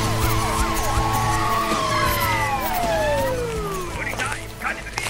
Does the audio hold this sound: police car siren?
yes